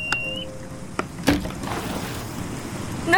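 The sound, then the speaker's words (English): Water rushes and churns steadily through a leak as a boat sinks and the water rises, with a few sharp knocks and thuds. Brief creaking, whistle-like tones come early. No one speaks. “There's a leak. The water's rising. It's rising. No, we're sinking.”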